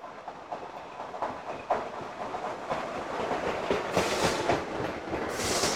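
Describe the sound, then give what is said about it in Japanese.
A train rolls into a station with steady rumbling and rhythmic clacking of wheels, growing louder as it nears, with bursts of hissing brakes toward the end. “ああ、来ました。電車が来ました。”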